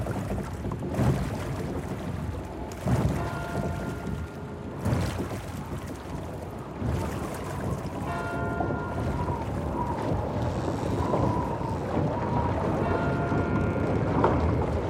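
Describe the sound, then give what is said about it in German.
Icy wind roars and gusts steadily around the gables, walls and corners of houses, barns and chambers on a cold November night, with thin whistling tones rising and falling over the rushing noise. There is no talking. “Eisiger Wind pfeift um die Giebel, Mauern und Ecken meiner Häuser, Scheunen und Kammern.”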